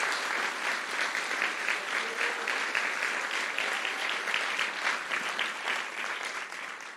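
A large audience applauds the helpers who had carried gifts in the rain, a dense wash of clapping that stays loud and even for several seconds before easing slightly at the end, with no voices over it.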